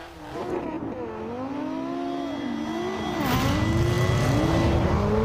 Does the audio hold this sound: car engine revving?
yes